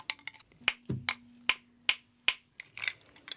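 Old wooden spoons, some of them painted, from the village of Krutye Khutora in Lipetsk region, are tapped together in crisp, bright knocks, a steady beat of four sharp hits in the middle, framed by quicker, lighter rattling taps at the start and end.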